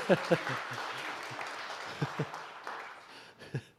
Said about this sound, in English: Right. Well, let's give them all a round of applause, shall we? Praise God.